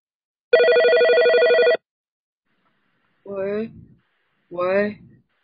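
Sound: telephone ringing unanswered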